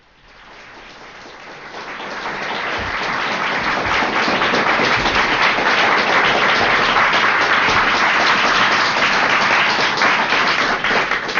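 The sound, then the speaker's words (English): An audience applauds at the start of an L. Ron Hubbard lecture, 'Technology and Hidden Standards', given on 2 March 1965. Dense overlapping claps build from a quieter start into a loud, steady roar of clapping that holds for several seconds with no voices. “I take that early applause you were gotten there.”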